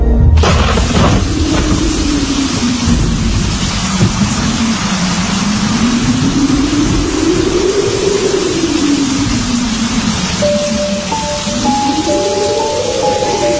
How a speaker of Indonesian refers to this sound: Cuaca hari itu sedang diguyur hujan cukup lebat. Suara kilat menyambar dan hembusan angin sampai terdengar ke dalam ruangan kerjaku.